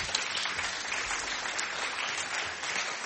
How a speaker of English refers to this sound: Great, give them all a clap.